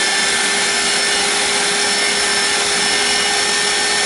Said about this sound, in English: We all know what a vacuum sounds like, so I'm gonna fast forward.